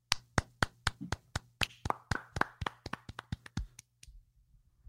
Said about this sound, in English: Can I clap? I think we did some really good talking.